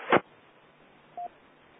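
A sharp click is followed a second later by one short, clean telephone keypad tone, moderately loud, over a faint steady background hiss with no talking.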